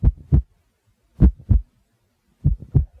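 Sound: pounding heartbeat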